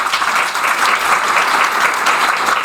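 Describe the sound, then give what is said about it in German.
An audience, asked to clap very loudly all at once to show how it sounds when everyone claps, produces a dense, steady wash of applause with no pauses, sustained for a few seconds and no voices standing out. “Sie müssen jetzt erstmal alle einmal ganz laut klatschen.”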